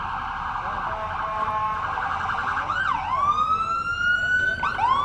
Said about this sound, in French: I wouldn't want to be waiting for that ambulance tonight.